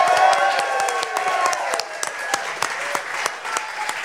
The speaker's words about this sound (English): I want to just say a big giant thanks to everybody who's in this room. Give yourselves a big giant round of applause.